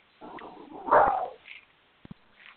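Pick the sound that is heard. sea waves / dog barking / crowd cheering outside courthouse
dog barking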